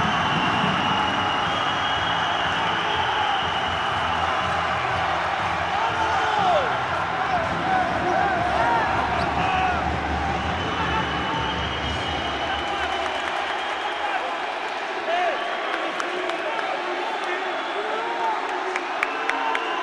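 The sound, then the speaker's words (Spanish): A basketball crowd cheers and shouts at the final whistle, after a three-pointer with 5 seconds left won the game for Aljustana 50-49: a loud, dense roar of many overlapping voices that holds steady throughout, with the deeper rumble dropping away partway through. “Esta era la reacción con el pitido final.”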